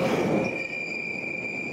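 A metro train pulls into the station, its wheels letting out a steady high-pitched squeal over a low rumble that eases after the first half second.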